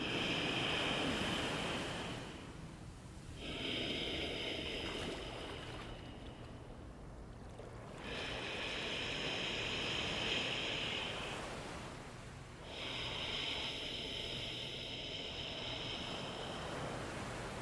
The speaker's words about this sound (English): So use your imagination and imagine that you're slightly constricting the top of your throat and you're going to start to make an ocean sound.